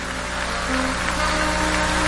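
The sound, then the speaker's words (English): A church audience claps for Jesus, the many hands merging into a dense, even patter that holds at the same level throughout, with a faint steady hum underneath. “Let's clap for Jesus as they go.”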